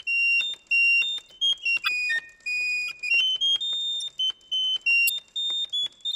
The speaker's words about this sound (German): Klingt tatsächlich wie Vogelgezwitscher. Serin ist das französische Wort für den Zeisig und den Kanarienvogel. Serinette ist also das Instrument, das deren Gesang nachahmen soll.